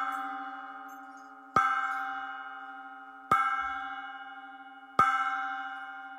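A tower clock bell tolls in slow, evenly spaced strokes, about four in all, each ringing out with a bright metallic hum that slowly fades before the next strike. No voices.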